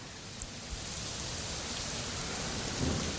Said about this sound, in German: Jetzt kommt der Sturm, oder? Jetzt ist stürmisch, ja.